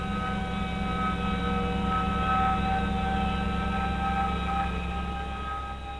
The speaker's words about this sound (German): Auf der Platte sind Grußbotschaften in 55 Sprachen, Bilder, Musik und auch verschiedene Geräusche, zum Beispiel Sphärenmusik.